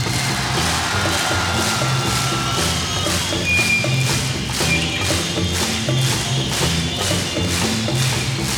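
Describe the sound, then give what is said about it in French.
A crowd claps in unison, keeping a steady beat of roughly two claps per second, loud and continuous over a dense low rumble of background noise. “Je veux vous entendre et je veux vous voir taper dans vos mains.”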